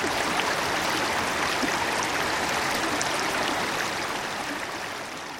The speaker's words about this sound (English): We follow the flow down the mountain where the trickle comes together with another and another. Soon it's become a full-fledged mountain stream home to rare speckled trout. At this point, Delbert announces, the Chattahoochee is a river.